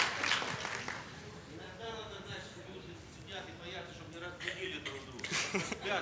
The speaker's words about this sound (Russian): А так как у нас, скажем, старшее поколение дружно аминь не говорят, молодым приходится хлопать, а что делать?